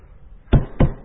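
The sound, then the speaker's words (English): Three firm, fairly loud knocks, the first two evenly spaced and the third following quickly, struck against a hard surface like a wooden door, with no talking. “Oh, I hear you knocking, Lord.”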